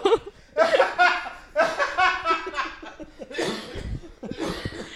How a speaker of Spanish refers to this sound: Está tosiendo con el hombro, no se preocupen.